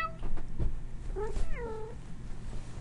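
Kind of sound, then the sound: animal, cat meowing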